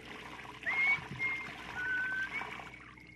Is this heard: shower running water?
yes